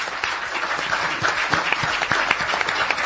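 An audience seated in the stalls applauds steadily, greeting a guest at the start of a programme. Many hands clap in a dense, continuous wash, with a few sharper individual claps standing out, sustained at an even loudness throughout.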